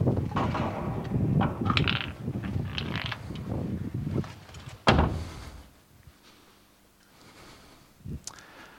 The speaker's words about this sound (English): Well, that's not going to go well for us. It's going to be easier for me to just close the door, I guess.